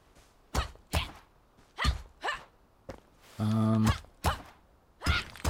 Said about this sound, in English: We broke off a rock. We do indeed. This is indeed a punching trees game, except it's starting with us punching rocks.